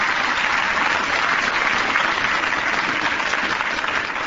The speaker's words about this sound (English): Let's have a little applause here for Miff. All right.